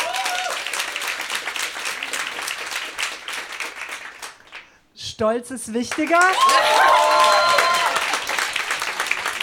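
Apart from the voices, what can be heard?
audience applause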